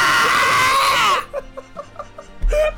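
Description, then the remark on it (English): Loud, high-pitched screaming fills the first second, then breaks into short gasping vocal bursts before another sharp yell erupts near the end. Intense, with no clear speech. “I bet our fucking audience is like, why are you guys screaming so much?”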